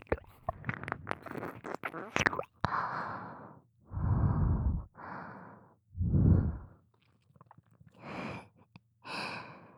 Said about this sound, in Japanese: 舐められてもっと敏感になってるから、私の吐息がかかるだけでも気持ちいいね。